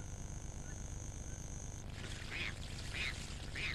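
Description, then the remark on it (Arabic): A Mandarin duck, a species from China, gives three short, evenly spaced calls over the last couple of seconds against a steady background hiss with no talking. “يأتي بط المندورين من الصين أيضا.”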